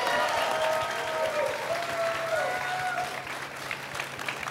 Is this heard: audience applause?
yes